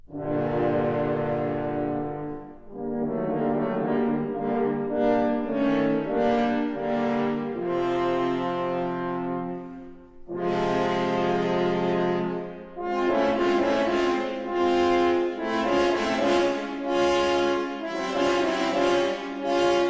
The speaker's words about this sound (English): The wolf is represented by three French horns.